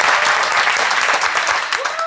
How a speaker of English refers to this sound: Could we give him another huge round of applause?